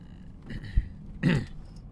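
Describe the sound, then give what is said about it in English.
A gravelly throat clearing rasps right up against the microphone, a brief rough burst preceded by a softer hum, with no talking around it. “Didn't mean to clear my throat in your ears.”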